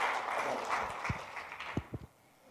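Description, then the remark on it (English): A church audience claps together for its returning youth group in a steady, dense wave of applause with a few low thuds mixed in, then it tapers off and stops near the end. “That's our group coming back. Give them a round of applause.”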